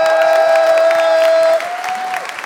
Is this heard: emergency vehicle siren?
no